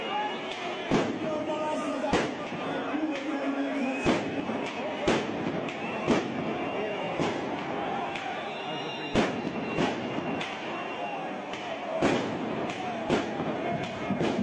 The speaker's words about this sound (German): Reichlich Clips und Böller, die da zusätzlich zum Rauch und zu den Fackeln geflogen sind.